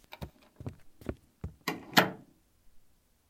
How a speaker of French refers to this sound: Il lui fait un bisou sur le front, allume la veilleuse, éteint la lampe de chevet et s'en va discrètement en fermant la porte.